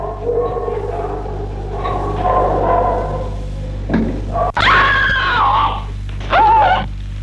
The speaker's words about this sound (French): Une femme a crié, puis c'est le silence.